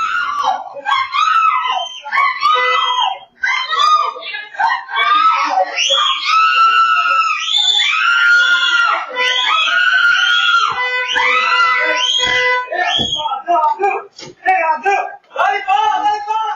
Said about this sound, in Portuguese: Em um ato de desespero, a mulher começa a gritar pedindo socorro.